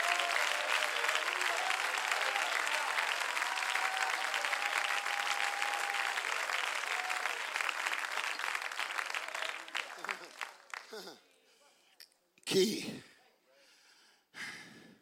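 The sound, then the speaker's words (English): A crowd claps steadily and loudly for about ten seconds, dense overlapping handclaps that gradually thin out and fade, followed by a few scattered breaths and sounds. “My God, somebody clap your hands.”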